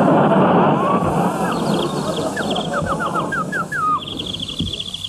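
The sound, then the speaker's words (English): A boy imitates a bird call: a run of quick, high whistled chirps and downward slurs, ending in a rapid warbling trill, heard over steady background hiss. “That boy can imitate a bird so real you're afraid to look up.”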